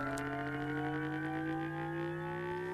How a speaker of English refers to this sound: Right. So we ran a number of synthetic engine tests, and this is.